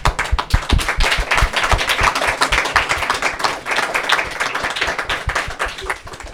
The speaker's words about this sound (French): Moi, je voudrais vraiment tirer un grand coup de chapeau aux élèves là et à tous ceux qui vont le faire. Oui, on peut les applaudir d'ailleurs.